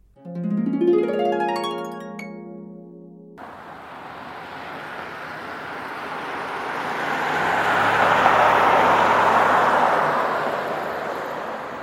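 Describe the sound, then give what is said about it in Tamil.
Steady roadside traffic rumble fills the scene at a bus stop, swelling as a vehicle passes by midway, after a brief tonal musical sting at the very start; no one speaks. “இன்னைக்கு பஸ் ஸ்டாப்புக்கு சீக்கிரம் வந்திருக்கீங்க?”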